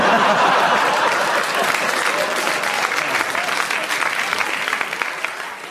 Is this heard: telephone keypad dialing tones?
no